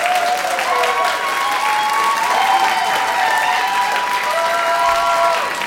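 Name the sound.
audience clapping to vote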